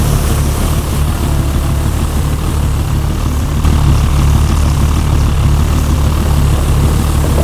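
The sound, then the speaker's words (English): The engines of three propeller planes idle on deck before takeoff, a loud, steady, low droning rumble with a throbbing hum that holds constant throughout, with no voices. “Three planes get ready to take off on deck.”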